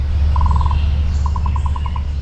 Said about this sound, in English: And then we had trills. So trills are things you'll hear in a lot of bird songs.